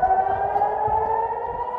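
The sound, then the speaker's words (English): A loud, sustained air raid siren wails steadily at night in Jerusalem with a strong harmonic tone, holding its pitch throughout over a low background rumble, with no voices. “This video and this sound, this terrifying sound of the siren, this was the kind of the background music of that night in Jerusalem.”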